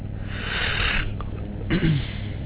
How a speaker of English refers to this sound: Oh, yawn.